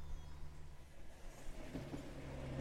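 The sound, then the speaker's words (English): A steady low rumble of an empty train rolling along the tracks, with a constant mechanical drone and hiss filling the background. No voices are heard. “The whole train's empty.”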